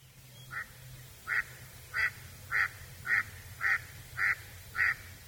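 A duck quacks eight times in a steady, evenly spaced series, each call short and fairly loud against a low, quiet background rumble.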